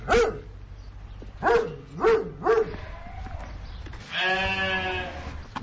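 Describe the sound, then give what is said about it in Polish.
East Friesian and Romanov sheep bleat several times outdoors in a paddock: a few short, clipped calls in quick succession, then one longer, wavering bleat, clear over a low background rumble. “Owce są na padoku, który ostatnio zrobiłem na tym wybiegu.”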